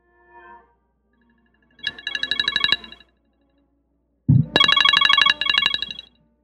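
timer alarm ringing

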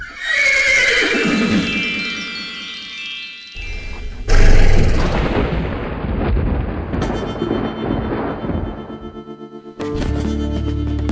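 horse neighing

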